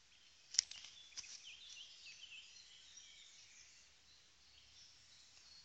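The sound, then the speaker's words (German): Soft outdoor ambience in a meadow of crickets chirping steadily with birds twittering and singing, one brief sharper chirp near the start, all faint and continuous with no voices. “Gezirpe von Grillen, Zwitschern der Vögel, ihr Singen hörst du.”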